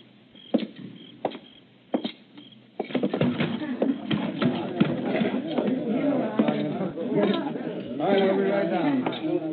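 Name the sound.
horse hooves clip-clopping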